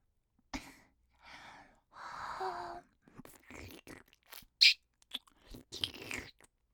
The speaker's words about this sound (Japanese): 舐められてるみたい？舐めてるの。